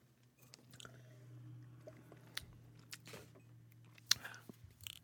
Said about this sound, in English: Here we go, right there. That's called a good cup of coffee. Yum. I'm going to taste it. I'm going to chew it.